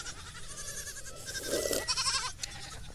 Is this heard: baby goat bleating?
yes